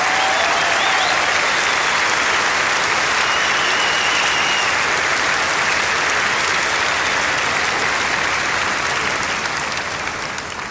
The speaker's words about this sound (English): This is the biggest pipe band ever here on stage in Malta. Give them an enormous applause for making the difference. Malta Pipe Band!